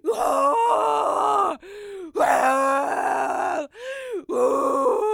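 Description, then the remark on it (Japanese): A person roars and bellows in imitation of a gorilla, three long loud strained vocal bursts with short breathy gaps between them, rough and pitched fairly low. “これが私のはっちゃけセクシーゴリラ雄たけび。”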